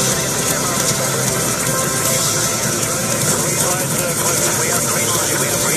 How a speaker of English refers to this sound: Oh my god, look at the traffic! This is ridiculous.